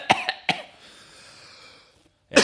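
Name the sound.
cough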